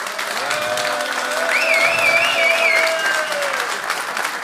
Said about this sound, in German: So, jetzt müsst ihr entscheiden, hat Burkhard das Ding vergeigt oder nicht? Ich möchte es an eurem Applaus hören. Applaus für Burkhard Hupe.